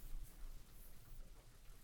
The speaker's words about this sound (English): with all of the sounds being off and only this gentle rain tapping on our windows so gently.